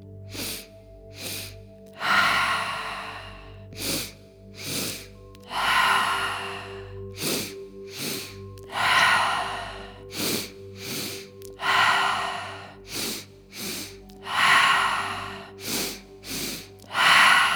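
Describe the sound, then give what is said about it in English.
Breathing in a repeating pattern during a guided breathing exercise: two quick sharp sniffs through the nose, then a long, airy sigh to empty fully, cycled about four times over a soft, steady background hum. “2 sips through the nose, 2 sniffs, and a long sigh to empty fully.”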